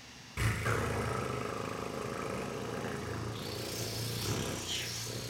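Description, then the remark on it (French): People imitate a hummingbird's fast-beating wings together, a loud, steady low whirring buzz that starts abruptly and holds for about five seconds without speech. “Tu sais, on peut faire le son des ailes qui battent très très fort ensemble.”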